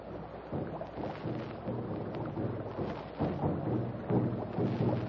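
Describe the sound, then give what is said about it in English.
Talking drums beat in rapid, rolling bursts, their low tones shifting in pitch from phrase to phrase over a steady, rumbling wash of noise. No voices are heard. “Listen. Talking drums again.”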